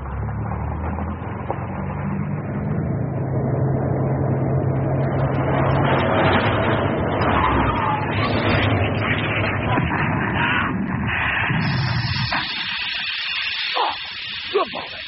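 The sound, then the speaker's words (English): An old banger car drives along a gravel road: a steady engine rumble under loud, continuous crunching and hissing from the tyres. Near the end it gives way to a thinner, higher hiss. “Well, we want a recording of an old banger like yours driving along a gravel road, turning onto a cobblestone surface with a short drive over concrete, and pull up this wheel of brakes on a wet patch of mud.”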